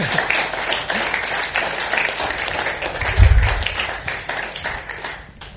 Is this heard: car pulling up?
no